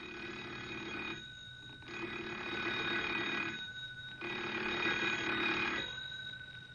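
A telephone in a store rings loudly and insistently, its bell sounding in long bursts separated by short pauses, repeating about three or four times with no one speaking.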